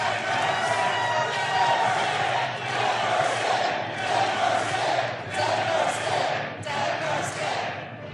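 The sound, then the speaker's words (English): A loud, sustained roar of crowd cheering and applause at the Glass Cannon Denver show, with many voices yelling and whooping over dense clapping. It stays at full intensity for the whole stretch, swelling slightly in waves. “I just love how Joe's in the bathroom right now and is hearing, like, the most applause ever.”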